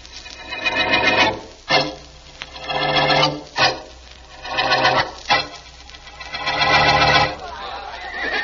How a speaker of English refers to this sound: Horses, quiet, will you, fellas? We don't need them till the next scene. Now get them away so we don't pick them up on that microphone.